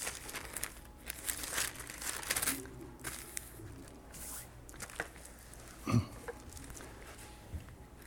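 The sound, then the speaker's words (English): Soft paper rustling and crinkling in irregular bursts, with a sharper crackle near the end, as a Bible is opened to Genesis 1:1 and a small slip of paper is tucked in to mark the page. No one speaks. “I got a little piece of paper there.”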